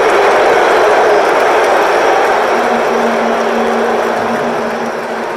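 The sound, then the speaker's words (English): A large stadium crowd boos in a steady, unbroken roar that holds loud for several seconds. A low droning tone rises out of the mass of voices midway, then the noise eases slightly at the end. “I just needed to end this part with the boos because they were there too.”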